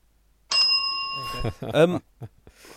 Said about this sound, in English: Use your synthetic bell.